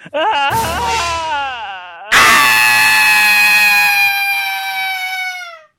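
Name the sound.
blood-curdling scream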